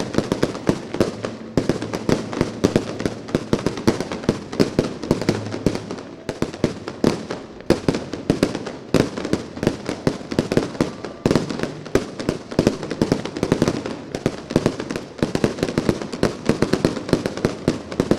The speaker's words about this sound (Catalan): No pot faltar, Joan, aquesta llarga i sorollosa traca final, tractant-se de Sitges, que ja és un clàssic. aquest espaterran final del Carnaval del 2022.